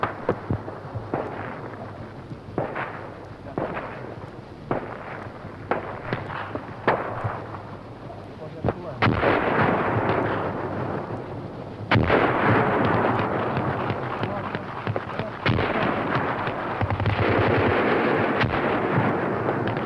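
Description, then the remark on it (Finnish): Finnish artillery and grenade launchers boom again and again amid crackling bursts of Finnish infantry rifle and machine-gun fire, returning heavy fire on Russian positions and building into a loud, continuous roar of battle with no voices. “Jalkaväkemme aseet laulavat ja tykistämme ja granaatin heittimemme yhtyvät konserttiin.”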